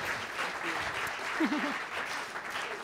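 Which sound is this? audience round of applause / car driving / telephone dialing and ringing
audience round of applause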